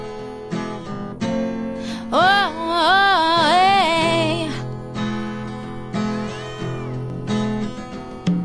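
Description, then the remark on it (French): A string of cats meowing in a long, wavering run over steady background music, followed a few seconds later by a softer, single meow; no one speaks. “Quand miaulent les chats au coup de minuit.”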